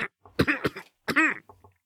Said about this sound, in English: Leech coughed again, violently, making a sound like an old dog's barking.